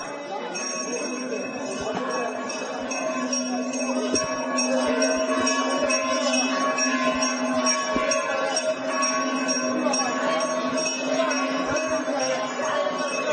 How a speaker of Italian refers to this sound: Come se la sua preghiera fosse stata ascoltata, si udì l'improvviso fragore della campana di un tempio.